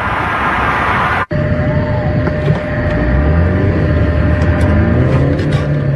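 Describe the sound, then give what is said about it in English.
Loud, steady roar of a white truck driving on the Mass Pike at up to 70 miles per hour with a man on its hood, wind and tire rumble filling the sound, broken by one abrupt cut near the start. No one speaks. “seen here in our exclusive NBC 10 Boston video, on the hood of this white truck for 3 miles on the Mass Pike Friday, at times going up to 70 miles per hour.”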